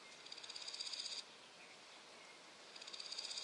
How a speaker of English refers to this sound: Grasshoppers rub their back legs against their abdomen, making a noise.